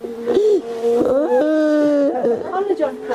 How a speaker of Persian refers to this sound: صدای گریه مادری که در سوگ هادی موسوی فرزندش نشسته و گلویش را بغض گرفته است. هادی موسوی 19 ساله در حمله انتحاری دیروز بر مرکز آموزشی کوثر دانش در دشت برچی کابل کشته شد.